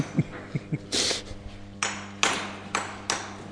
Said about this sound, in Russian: А вот сейчас рабочий ломает кирпич. Ломает кирпич. Готовит кирпич для закладки болвана другого колокола.